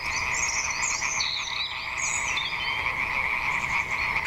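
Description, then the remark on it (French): A dense chorus of frogs croaks continuously and loudly, many overlapping calls forming a steady pulsing drone with higher trilling notes on top, with no talking. The frogs are at a wetland of former fish-farming ponds near Champigny, in spring, in the afternoon. “Un chouette chemin de balade y a été aménagé et, printemps oblige, les grenouilles s'en donnaient à cœur joie et en plein après-midi.”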